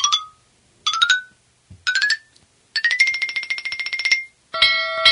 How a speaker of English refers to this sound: I love the bell, Captain. I just can't stop ringing it.